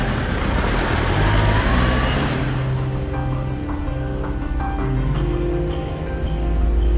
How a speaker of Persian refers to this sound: ون حرکت میکنه.